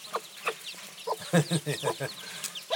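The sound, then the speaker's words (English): A broody hen and her ten little chicks in a coop: a busy run of short, throaty clucks in an uneven rhythm, with some higher chirps mixed in against a low background hum. “But it's all gonna go noisy in a minute because just check the little chicks.”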